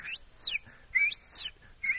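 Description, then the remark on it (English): A person whistles to call squirrels while shaking a green swamp cabbage limb as hard as possible: loud, shrill whistles, each sweeping up in pitch and then sliding back down, repeat about once a second, three in a row, with no talking. “And just take it and shake it just as hard as I can and whistle.”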